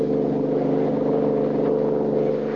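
A high-powered car engine roars steadily as the car drives fast along a road giving chase, a continuous drone with a constant pitch and level throughout and no voices.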